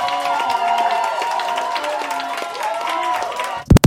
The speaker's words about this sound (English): Do we have an applause here for them? Okay. There you go.